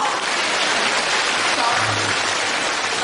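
A crowd applauds, many hands clapping in a dense, continuous patter that stays fairly loud and even for about three seconds.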